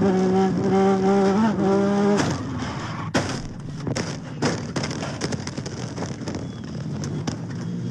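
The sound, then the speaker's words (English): Onboard audio of a race car at a car race in Wenatchee: its engine wails at high pitch for about two seconds, then it grazes another car, goes airborne and hits a wall along the race course with a loud crash. A jumble of scraping, clattering debris and sharp impacts follows, fading to a rough rumble. “car grazing another, going airborne, and impacting a wall along the race course.”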